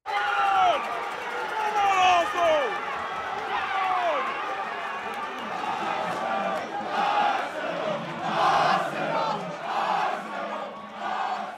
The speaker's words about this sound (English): Instead, I was standing in a crowded bar in downtown Brooklyn, screaming my lungs off for my favorite British soccer team, Arsenal Football Club.